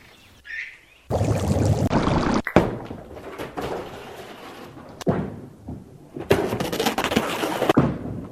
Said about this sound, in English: Sounds like a bowling alley.